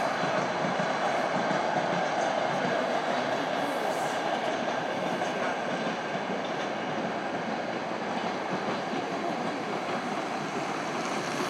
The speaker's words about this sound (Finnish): Ja tässä on sitten kuuluu tämä liikenne aika hyvin erilaista. No tässä juna.